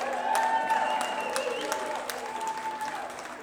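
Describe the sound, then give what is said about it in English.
A large outdoor crowd at the Bourbon and Brews Festival applauds steadily for a band, a dense wash of clapping with scattered cheers and whoops mixed in, holding at an even level for a few seconds. “While we're applauding, I also have to thank our local sponsors”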